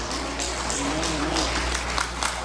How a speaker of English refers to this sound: Only the winners clapped.